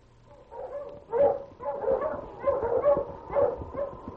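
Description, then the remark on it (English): A strong dog gives a run of short, repeated barks mixed with whining yelps, steady for several seconds, with no one talking. “Well, with a strong dog like him, it won't matter if we have to take a longer route.”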